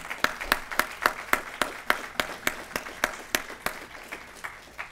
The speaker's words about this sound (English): Let's just give them a round of applause for that, all right?